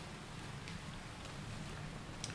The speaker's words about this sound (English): Can you hear the thunder? Can you hear the rain?